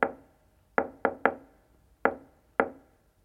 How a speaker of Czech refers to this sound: Jsem s novinkou číslo 2. Bude to záhadné zaklepání. Ano, záhadné. Patrně předválečné. Ale stále čisté. Tady je.